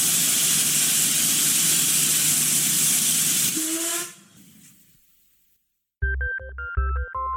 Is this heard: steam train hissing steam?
yes